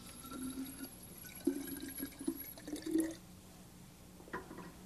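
Water pours into a glass bottle to make it half full, for about three seconds, splashing and gurgling with a slightly rising tone, then stops; a faint clink follows.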